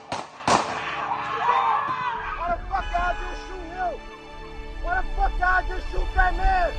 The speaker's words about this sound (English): A black man walks away from an armed white policeman and opens the door of a parked car. As he leans in, the policeman shoots him.